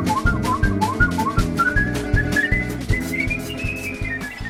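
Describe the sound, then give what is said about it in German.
Someone whistles a clear, lilting melody that rises and dips, played over a steady rhythmic musical backing with a regular beat and bass pulse. The whistling sits prominently on top throughout. “Sie sind der Meinung, Pfeifen ist allgegenwärtig und feiert als Musik seit einigen Jahren ein Comeback.”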